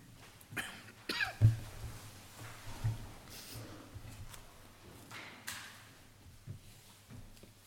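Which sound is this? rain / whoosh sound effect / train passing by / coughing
coughing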